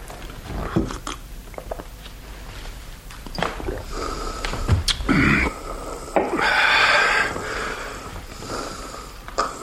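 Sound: snoring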